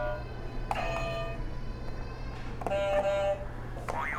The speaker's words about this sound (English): Can you hit some buzzers to finish us off? All of them? You can hit all of them if you want.